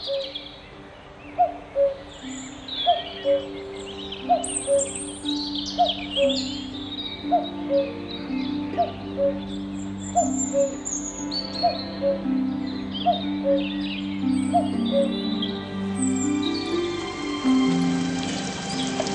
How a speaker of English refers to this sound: what stole the show for me was a bird a little closer to home. One that is found across Europe, Asia, and Africa. The cuckoo.